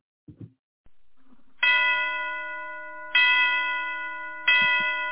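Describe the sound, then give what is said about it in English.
Christmas music opens with three ringing bell chimes, evenly spaced and left to decay over a low sustained tone, with a couple of soft clicks just before the music begins. “Let's get a little Christmas music on.”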